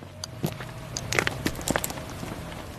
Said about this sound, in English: We're now walking on the concrete dam that runs across the reservoir.